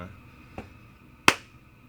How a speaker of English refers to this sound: And we've got one more song for you, and we want you all to clap your hands now. Yeah? Do it with us. And listeners as well, clap your hands there outside. Okay, like really slow speed.